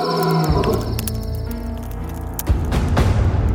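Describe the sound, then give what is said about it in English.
A bear's loud, deep roar rumbles continuously for several seconds from the trees outside a tent, swelling into a fresh harsh surge partway through, with no voices present. “Next, they heard a loud roar.”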